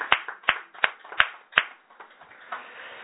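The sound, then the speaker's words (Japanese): Sharp hand claps at a church service for a couple's wedding anniversary, five crisp strong ones in a steady even rhythm, then a few softer, scattered claps trailing off. Nobody speaks. “結婚記念日ですので、盛大な拍手でお願いします。”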